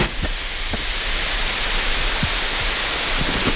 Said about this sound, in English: The whole oven hissed with steam once the water hit the hot rocks.